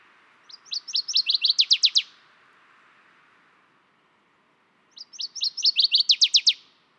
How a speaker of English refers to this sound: And here's the northern water thrush.